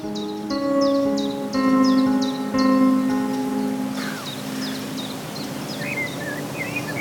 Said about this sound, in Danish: Altså, der er en havesanger der, en grænsanger der. Det var det sidste.